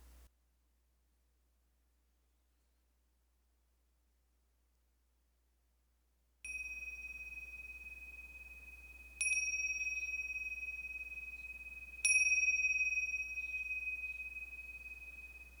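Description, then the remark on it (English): After several seconds of silence, a meditation bell is struck three times at steady intervals to close a meditation practice, each clear, high ring sustaining and overlapping the next as it slowly fades. No one speaks. “And we'll close the practice with the sound of the bells.”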